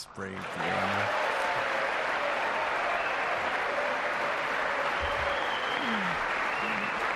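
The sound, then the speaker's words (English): A short burst of speech by Pence gives way to steady, dense crowd applause, loud and sustained with no break until the end, with faint voices mixed into the clapping. “Pence can see the thing that says stop for applause, and he's still hesitating.”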